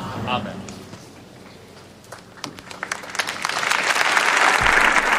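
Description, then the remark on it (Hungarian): An audience bursts into applause at the end of Pope Francis's general audience. Scattered claps at first swell into a loud, dense wash of clapping that keeps building; a brief voice is heard at the start. “Ezzel a tapssal ér véget a Ferenc pápa általános kihallgatása.”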